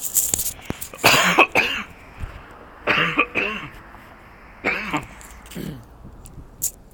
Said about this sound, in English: Uh-oh, I got a cough.